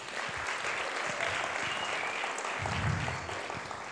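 Steady applause from an audience for a man invited to come up, a dense patter of many hands clapping at even loudness, with a brief low rumble of crowd noise near the end.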